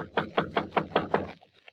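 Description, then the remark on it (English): Six quick, evenly spaced knocks on the door of a small padlocked wooden shed for garbage cans, fairly loud, each a hollow thud, followed by a couple of faint softer sounds as the rapping stops. “Just on a hunch, I go over to the shed and knock.”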